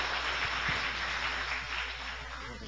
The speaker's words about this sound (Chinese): 我们把时间交给他，我们最热烈的掌声欢迎李前明牧师到我们当中。